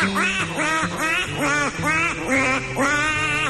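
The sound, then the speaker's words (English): A black-bellied whistling duck, which whistles instead of quacking, gives a rapid series of loud, squealing whistled calls, about six or seven rising-and-falling notes run together with no pauses, and no talking. “And it's known by the descriptive moniker black-bellied whistling duck.”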